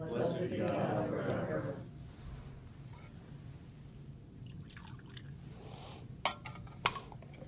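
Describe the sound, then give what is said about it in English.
A short, soft splash of water poured into wine in a chalice during Holy Mass on Relevant Radio, followed by a quiet lull and two light metallic clinks near the end, with a faint voice in the background. “In the mystery of this water and this wine, may we come to share in the divinity of Christ, who humbled himself to share in our humanity.”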